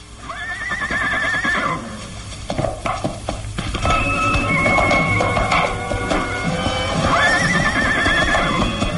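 Horses whinny loudly at the start and again near the end, high wavering neighs over a steady scuffle of hooves clip-clopping and shuffling, with no one speaking, as riders mount their horses, one with a rifle fixed in the saddle.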